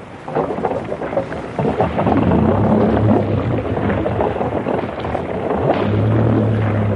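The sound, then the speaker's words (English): A boat's twin port and starboard engines roar loudly and steadily while warming up in neutral, a deep rumbling drone whose low pitched hum swells in strength partway through and again near the end. “Roar your flipping guts out, port and starboard. That's right. Warm up in neutral while I get the hook up.”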